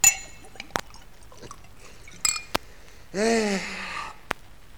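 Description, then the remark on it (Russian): At a table, Prokhor drinks wine and pours more for Natalya: a few sharp glassy clinks ring out at intervals, then wine gurgles steadily into a glass for about a second, its pitch shifting as it fills, followed by one more light clink. “У стола Прохор пьет вино и подливает Наталье.”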